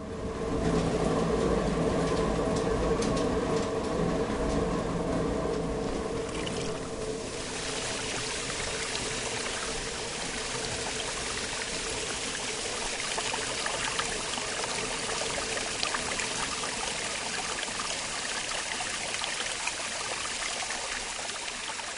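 Rushing water flows steadily and loudly at a watermill rebuilt in 1981, a continuous broad wash of sound. During the first few seconds it carries a faint mechanical hum, which then gives way to the plain roar of water.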